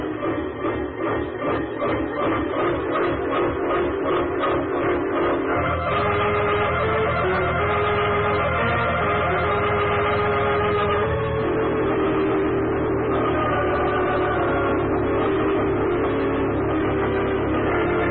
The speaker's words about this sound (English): Here comes the train.